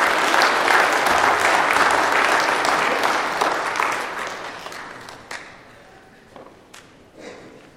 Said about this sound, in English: Let's give our sign holders a round of applause. Thank you, guys.